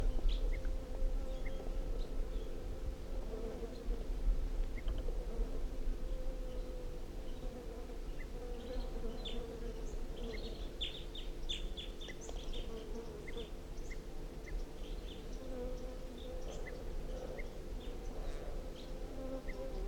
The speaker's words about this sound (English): So we're recording the wild bird, 8:47, and it's giving alarm calls.